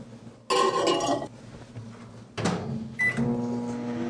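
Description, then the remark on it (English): Two glasses, one partially filled with water and the other with cooking oil, are set down inside a microwave oven with clattering clinks and a bright ring, followed by a lower hum and rattle near the end. No one speaks. “Then we're going to put both inside the microwave.”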